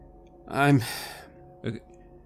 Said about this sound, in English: And he's still breathing heavily.